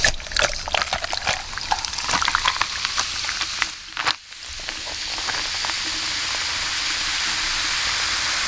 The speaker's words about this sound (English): So we're going to take our rest of what we've got in our can of our house rules when strawberry and kiwi call the shots and get it in some ice. So let's hear that beautiful can and ice sound.